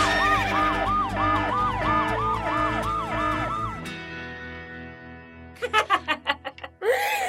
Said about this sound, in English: We got to sound that horse girl alarm.